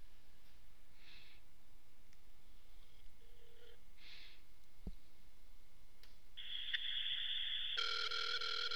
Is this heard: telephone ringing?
yes